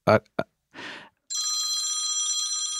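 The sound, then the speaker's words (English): A computer's incoming-call ringtone starts after a few short vocal sounds, a steady, bright electronic trill with layered high tones that rings continuously and fairly loudly to the end. “Who's, you have a phone ringing? I don't, that it's my stupid computer.”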